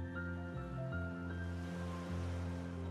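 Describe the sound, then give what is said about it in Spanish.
Steady wash of sea waves on the shore of a sandy beach at a constant, moderate level, blended with soft sustained musical tones that shift chords a few times; no voices. “Puedes escuchar el relajante sonido de las olas del mar.”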